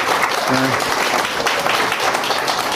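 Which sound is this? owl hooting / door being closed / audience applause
audience applause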